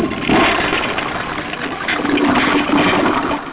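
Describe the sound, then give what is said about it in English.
A toilet flushes, a loud, steady rush of churning water that holds for several seconds with a slight swell partway through. No one speaks. “That's what that flush was all about.”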